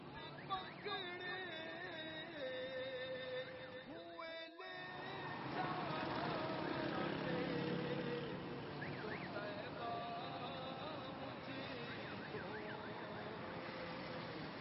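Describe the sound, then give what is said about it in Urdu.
Dense, chaotic road traffic rumbles steadily, with engines droning and honking, warbling horn-like tones layered on top; the din briefly dips for a moment before swelling back louder. “اتنی بے ہنگم ٹریفک ہے, یہ بھی نہیں دیکھتے نابینا شخص کھڑا ہے, اس نے روڈ کراس کرنا ہے.”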